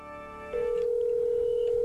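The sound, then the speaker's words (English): A telephone line tone plays as phone calls are placed on a radio morning show: a brief buzzy electronic tone, then a single steady, mid-pitched beep that holds unbroken to the end. No one speaks. “Making a couple of phone calls here.”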